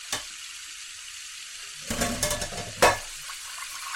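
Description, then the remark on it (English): Kitchen sink water in a home in Fairplay, Colorado, hissing steadily, broken by a brief sputter at the start, then a rough gurgling surge and a sharp burst near the end, with no talking. “Ugh, this is the second time this month the sink is acting up.”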